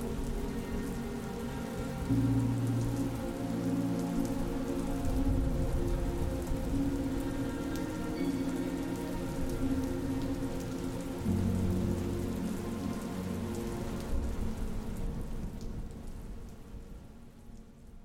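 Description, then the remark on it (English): Steady, heavy rain pours down in a dense, continuous wash, with a low rumbling undertone beneath the patter; it holds strong throughout before easing off at the very end. “The group stood silent, rain falling heavy upon them, mixing with the tears now flowing down their face.”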